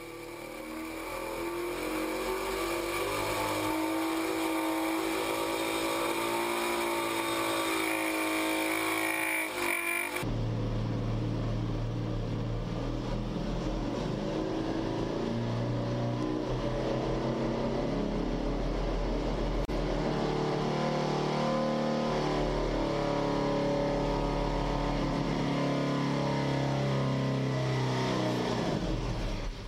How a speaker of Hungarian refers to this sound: Igen, egy Spitfire motor. De nézzük, hogy a csávó azért profi. Hallgassad csak.